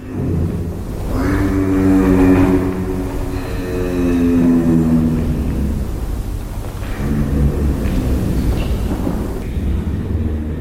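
A giraffe's deep, droning hum, recorded at a European zoo by University of Vienna researchers, sustained over about ten seconds, rumbling low with harmonic bands that waver and shift in pitch, coming in a few long swells with no talking.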